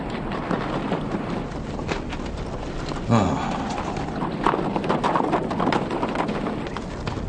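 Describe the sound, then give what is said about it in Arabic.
A saddled horse, its hooves clopping irregularly over a steady noisy background, with a brief louder snort-like burst partway through. “اسمع أنت، انتبه لحصاني، فك سرجه ليرتاح قليلا.”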